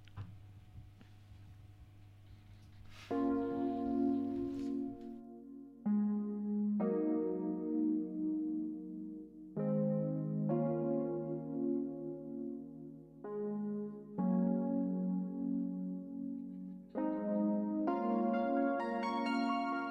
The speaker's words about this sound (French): Donc je propose qu'on fasse une petite pause musicale.